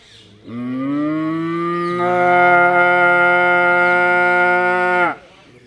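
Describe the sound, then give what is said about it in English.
A cow lows in one long, drawn-out moo lasting several seconds, loud, swelling slightly partway through before cutting off. No one speaks. “And all the cows are doing Rambamana.”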